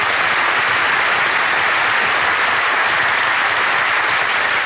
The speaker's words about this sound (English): Why did you give just him applause? Don, I have to. It's in this contract. You mean you give him money and applause, too? No money, just applause.